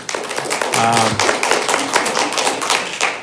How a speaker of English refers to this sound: That was the last speaker, so I won't chastise people for clapping.